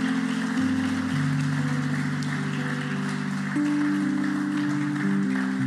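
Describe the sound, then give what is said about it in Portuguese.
A crowd applauds Jesus steadily for several seconds, a dense crackle of clapping layered over sustained keyboard chords that shift beneath it. No one speaks. “Será que você pode aplaudir Jesus por isso ou não?”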